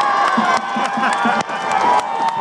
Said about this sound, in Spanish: Aplausos.